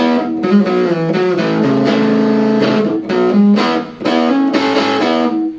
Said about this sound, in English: It has that kind of a, it's not a real super gainy type of distortion, but it's got a nice sound. It's got an interesting, and it's real responsive.